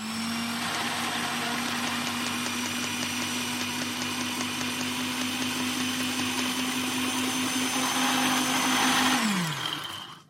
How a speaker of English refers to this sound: Were you going to try putting them in the blender? I think we'll yeah, maybe we'll try putting them in the blender. I think that might be a bit more efficient.